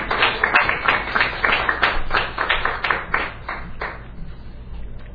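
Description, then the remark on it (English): An audience applauds veterans on Veterans Day with a dense, steady patter of many hands clapping, moderately loud, gradually thinning and softening toward the end. No one speaks over it. “Go ahead, give them a hand.”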